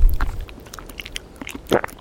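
Someone in Brittany, France, chews a crunchy snack outdoors in a little wind, giving several irregular crisp crunches spread over two seconds, with a low wind rumble at the start and no talking.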